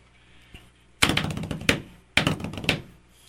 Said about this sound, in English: Oh, banging on the desk. I was waiting for you to say something.